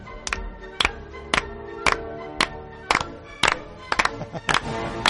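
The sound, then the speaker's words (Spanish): A concert audience claps in unison to a steady beat as the conductor turns and invites them to clap in time: about eleven sharp claps roughly every half second, over music with sustained tones; the last few claps grow looser and denser. “Y lo único que hay que hacer es dar palmas a tiempo.”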